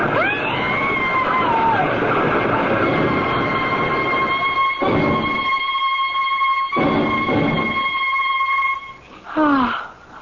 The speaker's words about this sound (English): I can't stop the train. It's moving, lady.